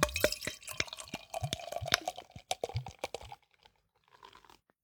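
Beer brewed in Aberdeenshire, Scotland, pours from a bottle into a glass with a burst of gurgling, splashing glugs and crackling fizz, then settles into a faint, fading hiss of foam.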